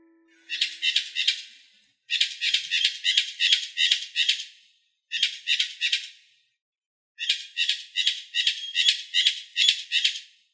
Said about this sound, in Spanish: El sonido sorpresa de hoy fue el de un ave llamado cotorra. La cotorra es una especie que solamente se encuentra de forma natural en la isla Española.